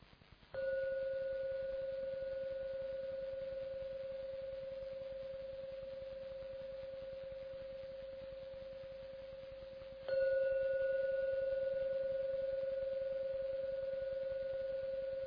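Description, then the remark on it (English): A gong is struck twice, about ten seconds apart, each strike blooming into a steady, mellow ringing tone that fades very slowly, rung to call people out for meditation. No one speaks. “I'm going to ring the gong 3 times.”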